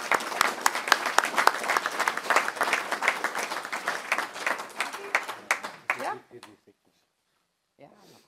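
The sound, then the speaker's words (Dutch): An audience applauds warmly, dense steady clapping for about six seconds that thins out and stops, followed by a brief silence and a faint voice near the end. “Ik zou graag een warm applaus willen voor Bert Grimies.”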